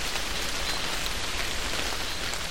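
Rain driven in from the side, from the right, a dense, steady hiss of drops pattering against a surface, constant in loudness throughout with no voices.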